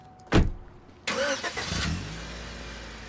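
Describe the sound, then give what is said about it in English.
A car door thuds shut, then an engine cranks and starts, revs briefly and settles into a steady rumble as the car speeds away from a parking lot, loud, with no voices. “She speeds away, leaving Jimmy alone in the parking lot.”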